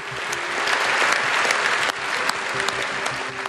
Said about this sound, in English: Those parliamentarians gave him a lengthy round of applause.